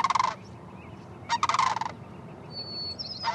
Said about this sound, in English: The sun is just coming up at 5 in the morning at a long-term migration station in interior Alaska. A half dozen giant sandhill cranes fly overhead.